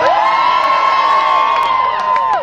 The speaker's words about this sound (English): Hi everyone, it's brilliant to see so many of you here today. I think you should all give yourselves a big cheer.